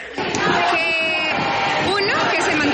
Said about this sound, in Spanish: Ambos se gritan arengas y todo tipo de gritos.